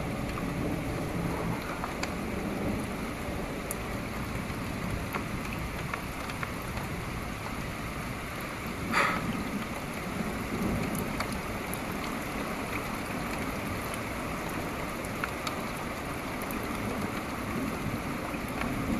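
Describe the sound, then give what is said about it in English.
Steady, hissing rain fills the whole recording from a thunderstorm, with a brief sharper crack around the middle and no distinct rolling thunder standing out. Nobody speaks. “Maybe you just want to hear the thunder, in which case you should probably just listen to the MP3.”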